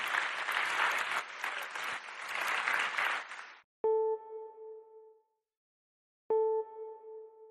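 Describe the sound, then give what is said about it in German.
An audience in a hall claps steadily for several seconds in thanks to the Bugatti staff, a dense crackling wash of applause that stops abruptly, followed by two clear ringing chime tones, each struck once and fading out slowly. “Vielen Dank dafür nochmal, gerne auch einen kleinen Applaus, auch einen großen Applaus.”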